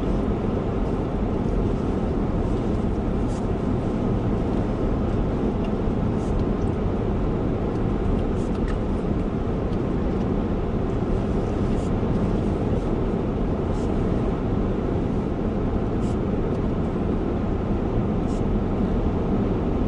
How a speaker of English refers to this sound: Traffic out here on Highway 95. Kind of a lonely stretch. Normally.